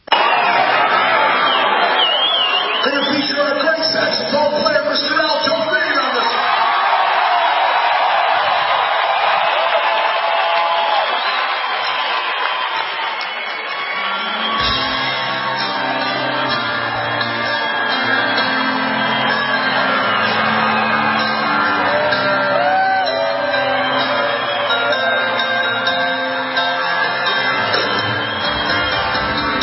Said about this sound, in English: But right now, to introduce our very special guest, a member of the Rock and Roll Hall of Fame, as he is the saxophonist and car guy extraordinaire, let's play a little sound bite from one of the recent concerts.